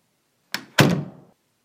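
A door aboard the ship Cavalluccio swings shut with a soft first knock followed by a heavier, solid thud that rings briefly before fading, with no one speaking.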